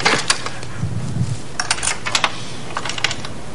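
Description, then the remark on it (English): A metal key ring rattles and jingles as it is pulled out of a jammed vacuum cleaner, with a series of sharp, irregular clinks and clicks in quick bursts, faint low rumbling underneath and no talking. “that's my key ring. Don't you have better sense than trying to pick up a key ring with a vacuum cleaner?”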